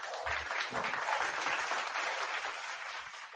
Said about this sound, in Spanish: ¡Qué bárbaro! Aplauso, por favor, para